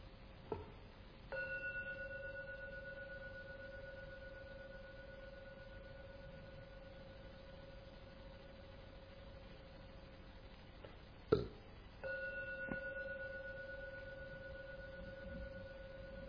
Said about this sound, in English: Now I'm going to ring the gong 3 times. Please listen. And the third ringing disappears.